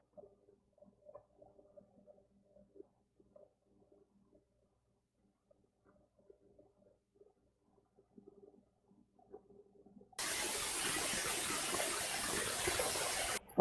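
After about ten seconds of near silence with faint low murmuring, a shower suddenly starts running, a steady, fairly loud hiss of spraying water that continues to the end.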